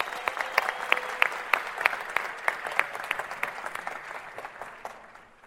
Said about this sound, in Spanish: Un aplauso para los líderes de la organización.